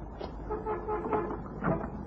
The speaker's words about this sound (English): I heard a car door down the street. Take a look, huh? Just ahead of the entrance to the block. Yeah, a guy standing next to a car.